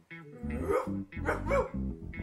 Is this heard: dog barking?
yes